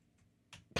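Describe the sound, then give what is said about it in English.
A few sharp clicks from a computer keyboard sitting under a music stand: a faint tap, then two louder, crisp presses in quick succession, with no talking. “And then let's type in with my keyboard, which is under.”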